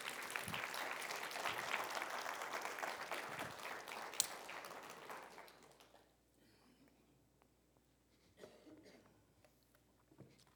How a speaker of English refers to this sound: You guys have to smile again. You got to clap. Don't be intimidating.